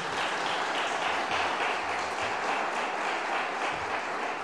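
A crowd claps steadily, a dense, even wash of many hands with no pauses, holding a constant loudness throughout.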